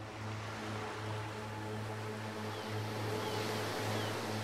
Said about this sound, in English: Feel the warm sun on your face and listen to the sound of the ocean.